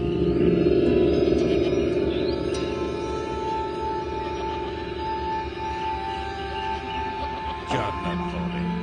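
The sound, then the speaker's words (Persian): Two goats belonging to Umm Khadijeh bleating in overlapping, drawn-out wavering calls that carry on steadily throughout, with a sharper, louder bleat breaking through near the end. “باورم نمیشه، این دوتا بوزای ام خدیجه هست.”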